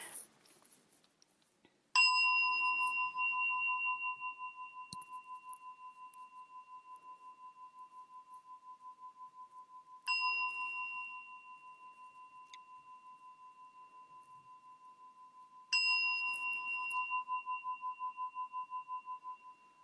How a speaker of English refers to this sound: So in my tradition, the Soto Zen tradition, I'll ring the bell three times to start and one to end. Here we go.